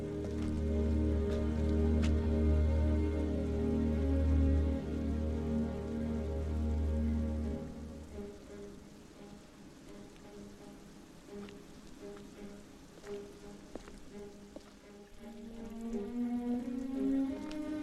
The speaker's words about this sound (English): You are listening to the noise of rain beating against a large metal drum. Go closer.